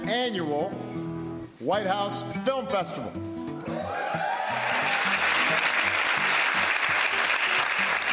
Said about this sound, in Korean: 제2회 백악관 학생 영화제의 개막을 알리는 바락 오바마 대통령의 인사말에 관객석에서 환호성이 터져나옵니다.